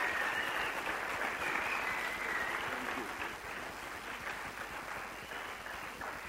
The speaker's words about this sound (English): Let's just honor the man of God and his wife. Just give them a big round of applause as he comes up.